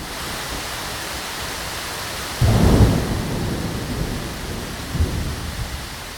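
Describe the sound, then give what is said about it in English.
Steady rain hisses throughout while a deep roll of thunder breaks in suddenly near the middle, rumbling and slowly fading, with a softer grumble following a couple of seconds later. “Here's some rain and thunder, followed by about 30 seconds of runoff, composed for Virginia Water Radio”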